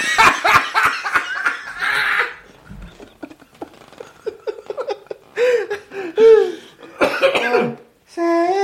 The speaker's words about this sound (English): Oh, I coughed and something came out and I don't know where it went.